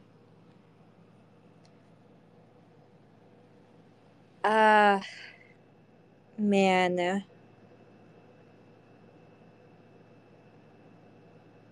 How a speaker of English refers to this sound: I can hear the airplane. That's the AC, my friend.